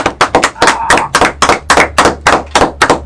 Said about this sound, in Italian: Qui scatta l'applauso.